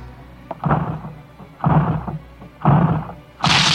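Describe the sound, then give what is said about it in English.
A door is battered down by police officers with heavy, booming blows: four loud thuds about a second apart, the last one brighter and harsher, as if the wood starts to give. No one speaks. “It just has to get us through this door.”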